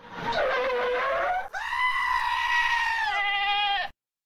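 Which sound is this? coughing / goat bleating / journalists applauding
goat bleating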